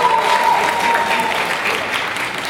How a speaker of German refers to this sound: Großen Applaus für dich.